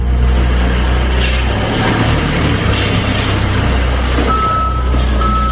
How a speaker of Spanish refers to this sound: Era una excavadora dispuesta a reducir a escombros la estación de toda la vida. Una estación que las ha acompañado a ellas y a todos sus vecinos de Ortigosa desde hace muchísimo tiempo, concretamente desde 1884.